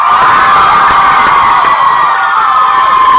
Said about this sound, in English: There's no way that I can play a song that's quite that awesome. But yeah, it's true. I can't live up to that cheer.